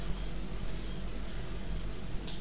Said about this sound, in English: She's riding her scooter inside the house and you don't do that, do you? They're going round and round. Scooter. Yes, her scooter.